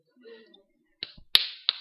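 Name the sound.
repeated slapping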